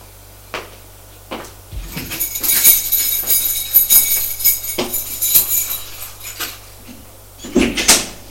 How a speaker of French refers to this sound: va aller ouvrir la porte de son appartement.